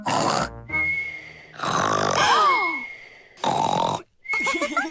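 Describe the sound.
A voice loudly imitates someone's loud snoring after lunch: several rough snorts in repeated bursts with pauses between, some ending in whistling, wheezy tones.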